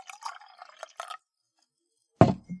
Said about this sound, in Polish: Także życie drugoplanowe, nalewanie wody, tak żeby było słychać. Zrób jeszcze raz.